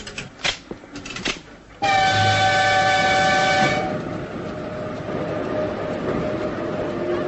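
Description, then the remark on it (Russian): A few sharp clanks and clicks, then the Krasnoyarsk express passenger train sounds a loud, long horn blast lasting about two seconds, followed by a steady mechanical rumble as the train gets under way on a green signal. “Ну что, поехали? Скорый поезд Красноярск. Все в ажуре. Сейчас поедем.”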